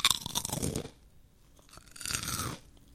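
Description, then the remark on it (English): Two loud bursts of crisp crunching as food is bitten and chewed, each lasting under a second, separated by a quieter pause, with no talking. “Patterns of crunchiness to satisfy your bird mouth.”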